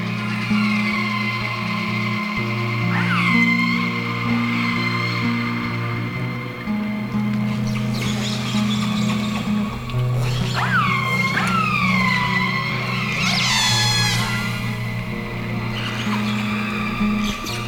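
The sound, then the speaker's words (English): Underwater whale calls recorded by a hydrophone: several sweeping, squealing tones rise and fall in bursts, fairly clear, over a constant low droning hum with no talking. “They are wonderful sounds to listen to, especially at night when we're camped or anchored in our boat and we have our hydrophone, underwater microphone, hanging off the side of the boat.”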